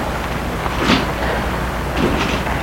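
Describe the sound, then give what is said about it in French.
Two dull car door thuds about a second apart, each a short muffled slam over a steady low background hum, as a woman gets into a car and the chauffeur gets in too. “Et elle entre dans la voiture.”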